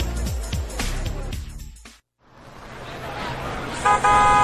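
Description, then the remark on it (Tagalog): A jeepney arrives with a steady engine roar, then a loud, brief horn honk sounds near the end, after a busy stretch of street noise and a short pause. “Tara na, yun na yung jeep.”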